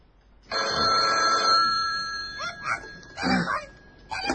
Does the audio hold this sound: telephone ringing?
yes